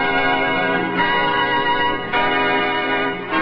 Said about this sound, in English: Happy holidays, happy holidays. While the merry bells keep ringing, they'll every wish come true.